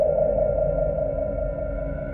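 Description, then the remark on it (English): A sustained tinnitus-like ringing tone, the ringing in a man's head, holds steady and fairly loud, its pitch drifting slightly downward and easing a little in volume toward the end as it slowly dissipates, with no voices. “Do I hear the tinnitus ringing in his head?”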